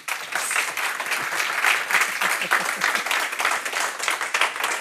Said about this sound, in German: Und so begrüsse ich all unsere Gäste. Schön, dass ihr da seid. Begrüßen wir doch mit einem herzlichen Applaus unseren heutigen Gast